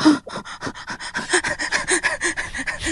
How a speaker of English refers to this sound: I started panting. Hold on, I'm feeling my heart. It's pounding.